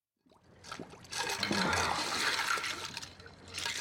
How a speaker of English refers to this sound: This is in this scene. Leo DiCaprio plays Rick Dalton, a washed up actor who has a drinking problem, who's putting his face in ice water as the director comes in to talk to him.